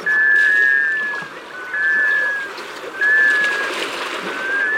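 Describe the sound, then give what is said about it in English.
Four drawn-out, mournful whistled notes from a male black scoter, a sea duck, each slurring slightly, spaced about a second apart and carrying clearly over a steady wash of water and wind on a northern bay on a brisk November day. “You're hearing the call of a male black scoter.”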